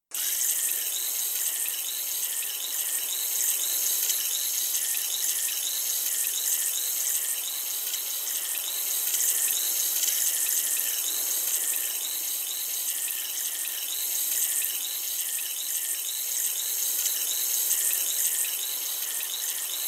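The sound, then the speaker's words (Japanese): Steady wet fizzing and gentle watery crackle of foam and water washing an ear, worked right up against the ear, continuing evenly for the whole stretch with faint rhythmic bubbling and no talking. “それではお耳の洗浄を始めていきます。”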